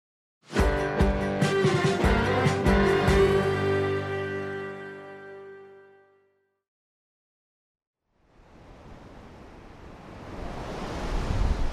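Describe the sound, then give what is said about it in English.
A bright musical sting with ringing tones fades to silence, then the rushing wash of ocean waves breaking on a beach in San Diego rises steadily, a broad hissing roar that swells louder toward the end. No one speaks. “Wherever wind and water meet to make a wave, surfers are sure to follow. Like on this beach in San Diego.”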